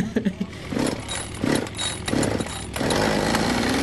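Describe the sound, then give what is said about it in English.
A Husqvarna 550 chainsaw, a medium-sized ground saw, runs, revving in uneven bursts before settling into a steady, loud high-pitched whine toward the end. “This is a 550, Husky 550. It's a nice little medium-sized ground saw.”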